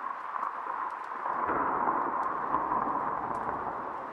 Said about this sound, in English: Jiminy! Ain't that storm a buster, though? Wild night, all right.